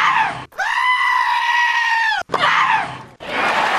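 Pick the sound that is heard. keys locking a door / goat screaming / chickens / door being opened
goat screaming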